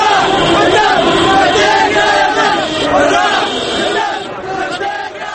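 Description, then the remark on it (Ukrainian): A large crowd of protesters in Sanaa, Yemen, chants and shouts anti-government slogans, demanding the president's resignation, a dense, loud roar of many voices with rhythmic rising calls that stays steady throughout before easing slightly at the end. “Учасники акції вигукують антиурядові гасла і апелюють до нещодавнього відсторонення від влади президента Тунісу.”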